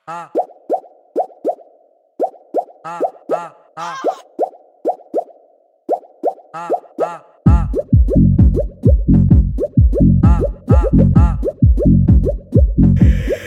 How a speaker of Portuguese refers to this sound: Olha o barulho da água, de blef, de plof, de plof, de plof, de plof, de plof, de plof, de plof, debaixo do chuveiro.